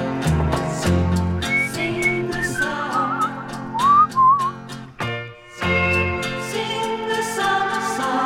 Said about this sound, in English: On today's show, we're going to have an extended set of music that features whistling. That's right, whistling.